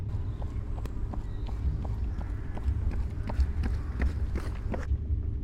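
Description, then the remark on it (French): Quick, steady footfalls of someone jogging, a regular rhythm of sharp taps over a continuous low rumble, with no voices. “Faire un jogging. Footing.”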